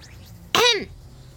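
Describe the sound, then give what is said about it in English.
A single abrupt cough, fairly loud, with a brief voiced, throaty tail that fades quickly, against an otherwise quiet background with no talking. “I coughed.”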